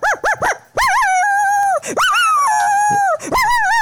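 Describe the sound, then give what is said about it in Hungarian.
A person imitates a howling dog: three quick yips, then long, loud, wavering howls that rise and fall in pitch, with no other talk. “Na jól van, egy vonyító kutya a végén.”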